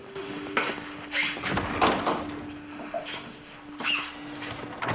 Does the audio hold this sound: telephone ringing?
no